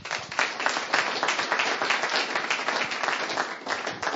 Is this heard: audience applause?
yes